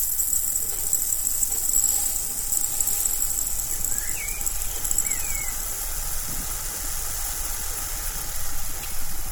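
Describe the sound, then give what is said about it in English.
A spinning wheel turns steadily, giving a continuous low whirring rumble with a faint rhythmic texture under a constant airy hiss, with no voices. “And although I can't spin, the sound of a spinning wheel is one I especially love.”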